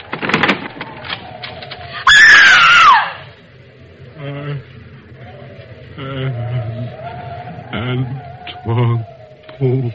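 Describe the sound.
A sudden, loud cry of pain lasts about a second, harsh and strained, its pitch sliding downward. Murmuring voices and low background noise come before and after it.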